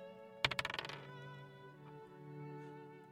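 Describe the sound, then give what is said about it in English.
Dice clatter onto a hard table during a tabletop role-playing game dexterity saving throw, one sharp hit followed by a quick run of lighter bounces that die away within half a second, over a faint steady background hum. “My dice are being kind of hinky, too.”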